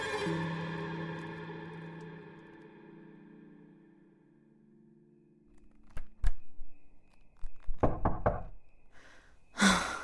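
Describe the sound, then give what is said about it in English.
A fading drone gives way to a series of firm knocks on a wooden door late at night, first a couple of raps, then a quicker irregular cluster, and a final louder thump. “I was up late poring over anything I had on pathology when I heard a knock at my door.”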